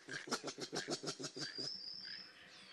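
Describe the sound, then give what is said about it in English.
A quick rhythmic run of about ten breathy, pulsing huffs from a large mammal up in the upper branches of trees, in the background, followed by a thin high whistle trailing off as the huffing fades. “And in the background, something that attracted my attention is this huffing sound, which I immediately realized was not a bird and had a very mammalian quality.”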